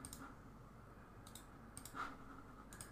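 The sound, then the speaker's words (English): Computer mouse clicking: five or so sharp, light clicks spaced irregularly, a couple close together, over a soft steady hum with no one speaking, while clicking through a number of different Iron Man action figures. “I'm clicking on a bunch of different figures”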